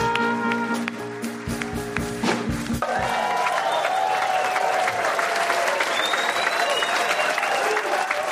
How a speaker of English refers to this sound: Did you sweeten that applause? No, we didn't. No. Oh, my God. Yeah, that's natural.